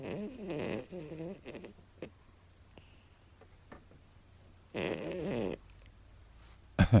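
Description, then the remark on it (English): A small female dog snores in rough, buzzing breaths: a couple of snorts at the start, a longer rasping snore midway, with quiet pauses between and a sharp snuffle at the end. “My little dog is down there snoring.”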